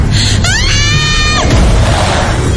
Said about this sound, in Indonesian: Aku berteriak keras mungkin.